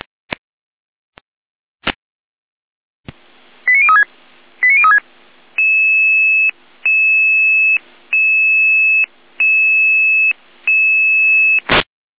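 German emergency dispatch alert tones before a call-out for an emergency door opening: a few sharp clicks, then quick two-tone chirps followed by a steady pattern of long sustained tone bursts repeating in even pulses, loud and electronic with no voices.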